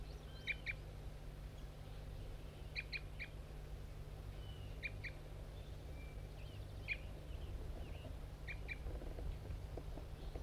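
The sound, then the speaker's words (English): A wild bird near a decoy setup gives short, sharp aggressive fight notes. They repeat in paired bursts roughly every two seconds, high-pitched and fairly faint over a steady low hum and noisy background, with no voices. “Bird 5-3 giving aggressive fight notes.”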